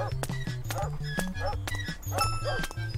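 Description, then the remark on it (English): Short, sharp barks from a dog chasing the player in an arcade game repeat about half a dozen times over a bouncy, stepping electronic bass tune, loud, with no one talking. “Why is that dog chasing me?”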